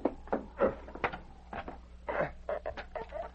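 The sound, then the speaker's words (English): A fireplace poker pries at a nailed wooden box, producing a run of irregular creaks, short cracking snaps and strained wooden groans, moderately quiet, with no one speaking. “Get the poker over there near the fireplace. Maybe we can get it open with that.”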